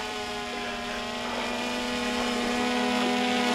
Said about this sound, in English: Oh my gosh. Look at that drone working.